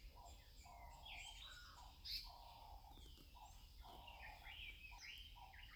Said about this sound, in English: And that one was a black-eyed bulbul. Another, the bulbul again.